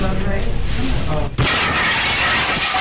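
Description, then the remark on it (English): Voices murmur before a car smashes through a restaurant window with a sudden, loud crash, and a dense, sustained wash of shattering glass and debris follows. “This audio we're about to play for you, you're going to hear the crash, the moment it all happened, and then you'll hear them.”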